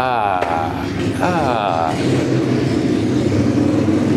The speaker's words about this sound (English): What terrible timing. That motorcycle ruined my beautiful exit from the apartment. I really can't believe how loud motorcycles are. It's fucking wild.